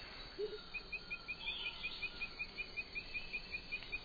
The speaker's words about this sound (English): There's the saucy cry of the black-necked red katinga.